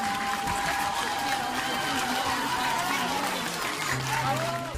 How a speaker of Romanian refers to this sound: Mulțumesc! Haideți să-i aplaudăm, vă rog!